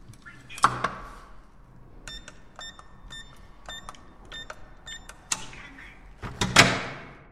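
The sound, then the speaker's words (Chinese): The front door of a home is opened after a series of short electronic beeps from a keypad lock; a click and a louder rustling clunk of the door swinging open come at the end, with no talking. “开门吧。”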